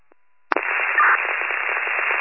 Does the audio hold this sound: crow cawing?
no